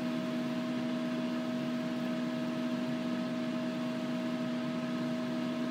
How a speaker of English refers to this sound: I'm just waiting for the beeps on microwave and it telling me up to temperature. So that's that. That should come up anytime soon.